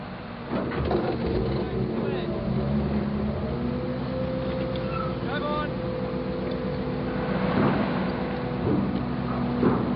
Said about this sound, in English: The ferry has landed. Go drive on. If you don't mind, I think we'll wait for the cars in front of us.